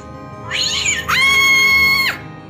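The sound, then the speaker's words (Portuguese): Two loud meows in a row from a kitten, the family cat: a short wavering one followed by a longer, sustained, rising-and-falling cry. No one speaks. “Viram? Era um gato! Um gatinho”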